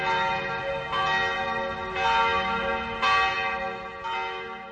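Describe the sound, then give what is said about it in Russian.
Church tower bells, hidden from the street behind the clock mechanism of a huge tower clock on a dark-brown fired-brick church, ring in a steady sequence, a new stroke roughly every second, each one loud and rich with lingering overtones that overlap into a continuous resonant wash. “за часовым механизмом разместили невидимые с улицы колокола.”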